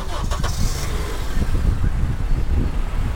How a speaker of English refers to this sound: And my car just started. Dude, that is the weirdest thing. Now, my friend had that, like, if you press the button three times, the car engine goes on.